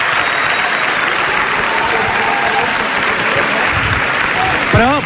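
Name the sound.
audience applause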